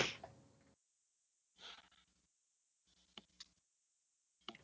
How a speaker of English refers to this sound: Excuse me about that. I couldn't find my mute button and I yawned.